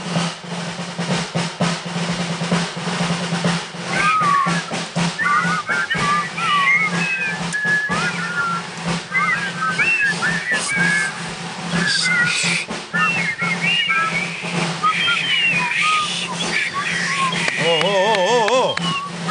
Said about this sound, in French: il essaye de faire siffler toute une bande de joyeux soldats sur l'air très connu du pont de la rivière